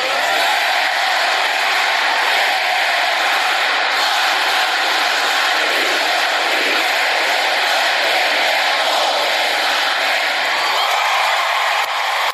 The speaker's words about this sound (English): Wow, that was a pretty fired up crowd there. By the way, that's the Ole Miss. That was your vice president, J.D. Vance, leading 14,000 people there at Ole Miss in the Ole Miss cheer, which is part of the Hottie Toddy cheer.